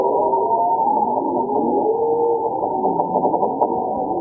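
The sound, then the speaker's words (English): Walruses singing in the dark beneath the sea ice of the Bering Sea: a dense, continuous chorus of low warbling, sweeping tones overlapping one another, with a few sharp knocks and clicks near the end. No voices are heard. “In addition to the bowheads, here are the sounds of walrus singing in the dark, also beneath the ice of the Bering Sea.”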